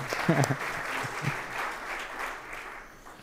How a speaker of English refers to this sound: We didn't clap for that, but let's clap now, because that was a good reading.